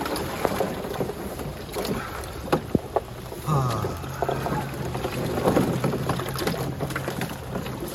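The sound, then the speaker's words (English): Rain patters steadily onto water at 37 degrees on a Monday morning, a dense, hissing wash with scattered sharper drops, mixed with wind buffeting. A low droning hum joins partway through, and a voice briefly exclaims. “37 degrees and it's raining, so it's like having a cold shower and doing a cold plunge.”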